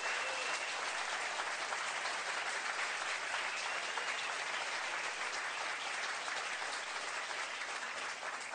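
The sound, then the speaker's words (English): Sustained applause from an audience for five candidates after their responses fills the whole stretch, a dense, steady wash of many hands clapping at an even level without a pause or any voices on top. “Let's give a nice round of applause to all the five candidates for the responses.”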